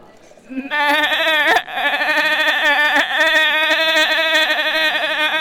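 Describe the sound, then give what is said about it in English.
A person imitates a sheep with a long, loud, wavering bleat, sustained for several seconds with a shaky, trembling pitch and a brief catch partway through. “Bought like a sheep for me”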